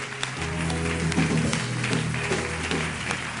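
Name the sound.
audience applauding and cheering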